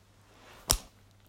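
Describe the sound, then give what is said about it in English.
A single crisp, sharp slap on the buttocks, standing alone against a quiet background with no talking. “Whoa, you surprised me with that butt slap.”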